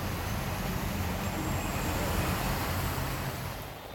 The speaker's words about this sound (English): Cars are really struggling to pass through this sea of a road, and the water really comes pretty close to the door handle of a normal sedan.